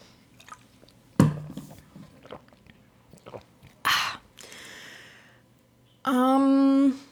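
Wet mouth sounds of someone sipping and swallowing water as a toast, with a few distinct gulps spread out, finishing with a short, satisfied voiced sigh.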